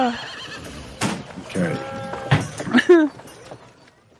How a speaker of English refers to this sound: I like that I'm hearing horses and the occasional sheep.